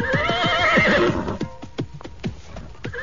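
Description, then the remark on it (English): A horse gives a loud whinny lasting about a second as its rider pulls it up and dismounts, followed by a steady run of hoof clops and thuds as it settles, with no voices. “I pulled up my horse and dismounted.”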